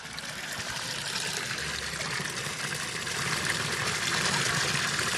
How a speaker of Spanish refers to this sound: ¿Será este sonido el de la fuente de la eterna juventud? Es el sonido del agua de la fuente de Asburgas en Orense,